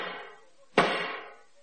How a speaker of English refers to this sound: Black Rod's duties consist in banging a 3-foot wooden pole against the locked doors and chanting the time-honoured words.